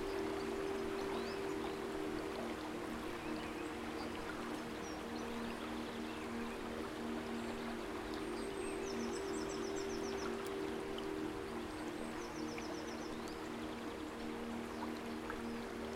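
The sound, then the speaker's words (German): A babbling stream in a forest runs steadily, its continuous watery rush filling the scene, with a low steady hum underneath and a couple of faint, brief bird chirps. “Das plätschernde Wasser zieht dich magisch an.”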